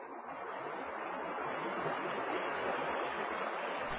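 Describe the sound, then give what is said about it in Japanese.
Steady roar of rushing water from the rapids of the Kiso River, a fast mountain stream in a steep, narrow valley, a dense continuous hiss that stays loud and unbroken throughout, with no voices. “木曽川の荒々しさを秘めた瀬音を聞きながらの歩みは、先で崖が立ちはだかり、途絶えてしまうのではないかと思わせるほど。”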